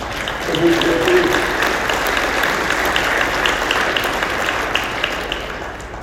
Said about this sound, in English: To spend 60 years working on nuclear fusion and to have ignition done at Lawrence Livermore, that's exciting. And again, another applause line for you.